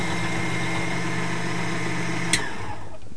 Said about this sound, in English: So yeah, you probably heard the engine. Sometimes burr grinders will, the engines will slow down, especially when you're doing a fine grind, or they'll get really hot and you'll get a lot of static electricity.